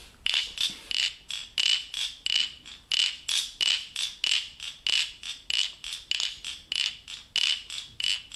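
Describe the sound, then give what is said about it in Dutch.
A musical instrument imitates cricket chirps with a steady train of bright, high-pitched buzzing pulses, roughly two or three per second, repeating evenly throughout with no voices. “Dit instrument is gemaakt om die krekelgeluid te kunnen nabootsen in de muziek.”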